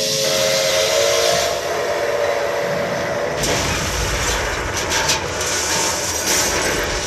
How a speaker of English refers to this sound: On three occasions, Iowans came to see the head-on crash of locomotives, a sound recreated in a display at the Fair Museum.